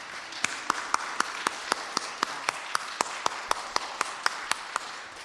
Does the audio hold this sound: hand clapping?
yes